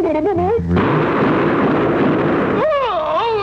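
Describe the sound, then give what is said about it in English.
A single loud gunshot-like blast, a shot at a bird, with a rough, noisy roar trailing for about two seconds, bracketed by warbling, squawk-like tones before and after. “How many shots do you think it'll take to bring down the bird?”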